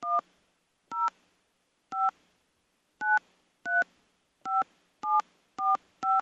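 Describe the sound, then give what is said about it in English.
Nine short, clear keypad beeps from a phone as a nine-digit ticket number is punched in one after another at an uneven pace, each a crisp two-tone chirp with silence between, no voices. “Please enter your ticket number now, followed by the pound key.”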